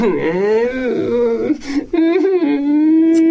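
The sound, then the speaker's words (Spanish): A voice imitates a child crying, with sustained, wavering whimpering sobs broken by a couple of short breaths, fairly loud throughout. “Ernesto se marchó llorando mientras los demás seguían tumbados al sol.”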